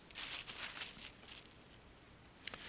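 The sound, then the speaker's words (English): Soft, crinkly paper rustling of book pages being flipped, a quick flurry of swishes in the first second, then quieter handling and one brief flick near the end, with no talking. “Hope you don't mind turning pages, because, or 49.3, I'm sorry.”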